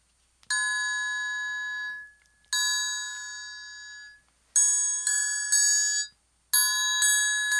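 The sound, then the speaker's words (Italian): A triangle rings out in bright, shimmering strikes: two long sustained tones, then quicker repeated taps in two bursts, each ringing with high metallic overtones before fading, with no voices. “È un triangolo a suonare.”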